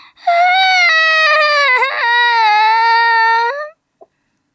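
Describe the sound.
A lost child's loud, wailing cry rings out in a park, one long unbroken sob lasting several seconds with a wavering pitch, then it cuts off abruptly, followed by a faint click.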